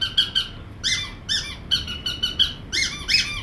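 A squeaky dog toy is squeezed repeatedly in quick bursts, each squeak a bright, wheezy rubber whistle, fairly loud, with no talking over it.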